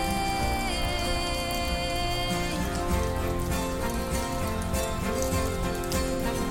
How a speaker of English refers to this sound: But I love the sound of the rain. It was coming down harder a bit ago.